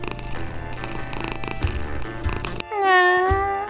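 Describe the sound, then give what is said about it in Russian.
A cat purrs steadily for a few seconds while rubbing against someone's legs, then lets out one long, clear meow that bends in pitch before fading, with no one talking. “Григорьевна оторвалась от чтения и посмотрела на кошку, которая терлась об ноги”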